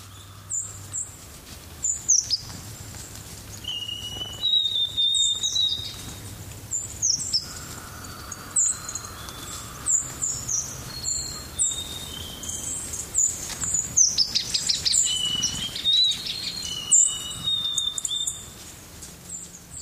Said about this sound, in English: White-throated sparrows have arrived rather all of the sudden under honeysuckle bushes. They now own my place.